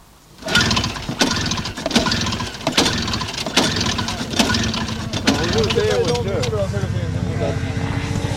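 The small two-stroke engine of a 1968 Lynx X12000 S14 Pro Competition Revolver snowmobile is pulled into life with several sharp cranking bursts, then catches and settles into a steady, raspy idle.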